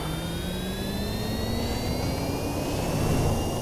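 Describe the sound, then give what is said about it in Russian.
An electric car based on the Hyundai Envision, with an anime paint job and a spoiler, accelerating: a steady, loud rush of road and wind noise with thin whining tones that climb gradually in pitch throughout, with no talking. “Это, блин, оказывается электрокар, и вы просто оцените неистовость его звучания.”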